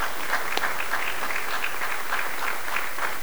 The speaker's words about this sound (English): I invite you to join with me in giving applause, and let it be recorded at the town meeting.